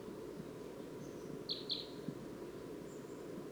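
A small wild crossbill, apparently a female, perched in a dead tree just beyond a net, gives two quick, sharp high chirps in close succession, with a couple of fainter thin notes around them, over a steady low rumbling background with no talking.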